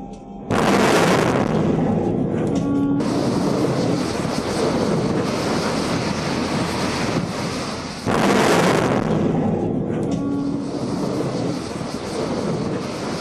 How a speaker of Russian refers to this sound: Успешно выполнена ракетная стрельба на приз главнокомандующего ВМФ.